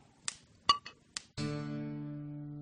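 Three crisp, bright glass clinks in quick succession as glasses touch in a toast, followed by a sustained resonant tone that rings on and slowly fades.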